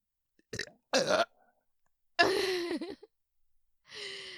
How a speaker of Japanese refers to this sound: 大きなゲップが出ました。うん、ね、もっと練習してこのぐらい大きなゲップが自在に出せるようになるといいなって思います。